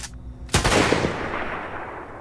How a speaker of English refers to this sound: From a sound design standpoint here, the drone and the rifle sounds both came from freesound.org.